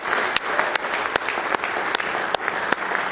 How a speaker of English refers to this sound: Somebody say praise the Lord. Why don't you give Him a big hand clap of praise tonight?